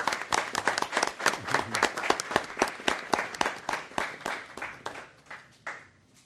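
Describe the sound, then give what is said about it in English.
Audience applause for staff at a board meeting, dense irregular clapping that stays strong for several seconds before thinning out and fading, with no one speaking. “You guys, can we give them another round of applause?”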